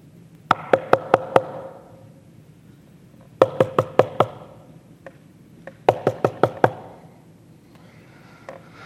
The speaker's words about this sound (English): The knocking is steady and persistent. You're compelled to answer it.